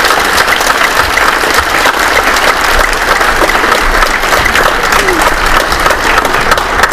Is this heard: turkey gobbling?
no